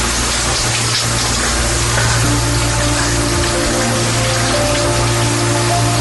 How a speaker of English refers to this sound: I have a clip from the movie, and I think this is the entire movie where you're in the shower.